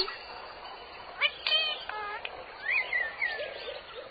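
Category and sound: bird, birds chirping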